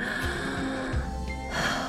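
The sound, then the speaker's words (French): A slow, deep breath drawn in and released, airy, over a soft sustained background hum with no talking; the final breath of a guided breathing exercise. “Une dernière respiration”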